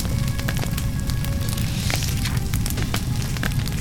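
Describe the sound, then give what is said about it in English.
A hut on fire burns steadily with a deep, constant roar, sharp crackles and pops snapping through it at irregular moments; it is loud, with no voices. “It was a hut on fire.”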